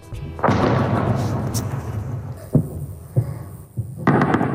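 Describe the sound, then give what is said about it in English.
Explosions near a military site in the Iranian city of Isfahan, recorded on video by residents during an overnight attack: a long rolling boom rumbles for a couple of seconds, followed by three sharp separate blasts and a final heavy burst, all fairly loud against an outdoor background. “Residents of the Iranian city of Isfahan captured what appears to be explosions on video.”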